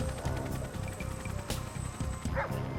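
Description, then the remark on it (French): Search-squad dogs bark in a rapid, nearly continuous series of sharp yaps and woofs that overlap one another, steady throughout, with no one talking, while tracking a kidnapper and his victim by scent. “Au sol, on fit appel à des escouades canines.”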